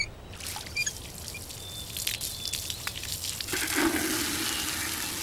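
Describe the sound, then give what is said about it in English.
Warm water pours in a steady, splashy stream that grows fuller and louder toward the end, with no one speaking over it. “That's warm water, believe it or not, and this is hydrogen peroxide.”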